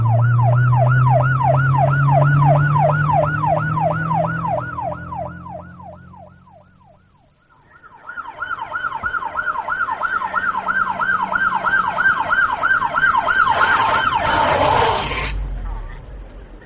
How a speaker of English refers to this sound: Come on, let's go. Sirens and lights. Right.